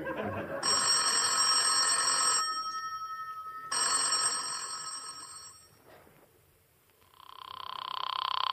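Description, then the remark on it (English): An old-fashioned telephone bell rings loudly in two long bursts separated by a pause, its bright metallic jangle clear, followed by a steady tone after a brief quiet gap. “It's ringing”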